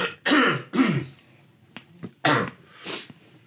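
A person coughs several times, four loud, harsh bursts in two pairs separated by a short pause with faint throat clicks, no talking.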